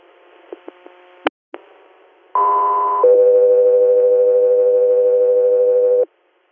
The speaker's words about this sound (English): Guthrie Air, stand by for tones.